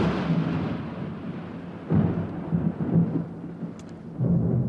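Steady rain hisses across the whole stretch while deep thunder rumbles and rolls underneath, swelling in low booming surges around the middle and again near the end.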